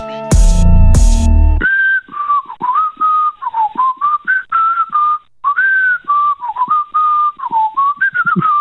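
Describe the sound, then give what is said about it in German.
After a brief loud burst of noise, someone whistles a wavering, continuous melody that sounds thin and narrowband, as if heard over a telephone line. No one speaks. “Ich höre da irgendein Pfeifen in der Leitung.”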